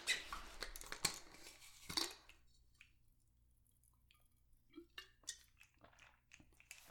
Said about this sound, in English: Oh. Cold water is so delicious. So delicious.